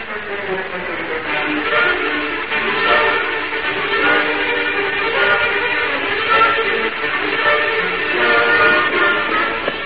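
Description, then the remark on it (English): A train sits idling on the tracks, its steady rumble and layered tonal hum filling the scene continuously and fairly loud, with no one speaking. “There's the train still standing on the tracks.”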